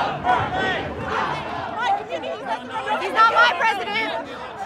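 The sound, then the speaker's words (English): A dense crowd of pro-Trump supporters and anti-Trump protesters beside the Civic Center Farmers Market around 1 o'clock on a Saturday, chanting "USA!". Many voices shout and talk over one another at once, loud and continuous, with raised cries rising and falling throughout. “Around 1 o'clock, a crowd gathered a few steps away.”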